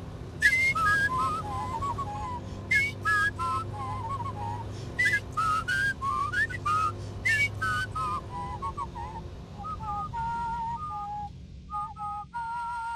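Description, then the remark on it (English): Two people whistle a lively melody together, sometimes in harmony, fairly loud, over a steady low rumble like a running engine, with occasional sharp clicks, while driving along the winding back roads of East Cork. “You let me drive to my heart's content down the windy back roads of East Cork, whilst you orchestrate our whistling duet.”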